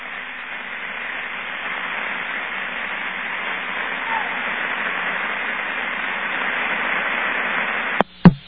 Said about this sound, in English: I'd say very definitely that was street noise.